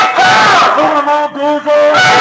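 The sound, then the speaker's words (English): A loud, dense protest crowd shouts and yells at once at the home of Michael Pace, Director of Government Relations for Goldman Sachs, with drawn-out, honking-like cries rising above the constant roar of many voices. “Quite a crowd gathering at the surface.”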